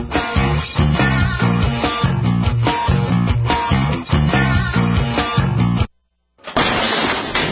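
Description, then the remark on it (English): A door is kicked in by an intruder with a single kick: one loud, sudden crash and a splintering, shattering burst. It comes after several seconds of steady rhythmic music and a brief silence. “That's the sound of your door being kicked in by an intruder with a single kick.”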